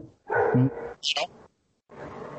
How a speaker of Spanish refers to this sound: Hasta algún perro se enfada. Claro, ¿quién es ese? Yo. ¿Quién es el perro?